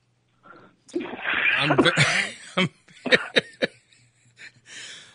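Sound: coughing and throat clearing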